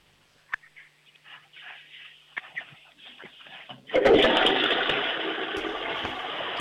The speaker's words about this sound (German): Das war aber eine ziemlich laute Klospülung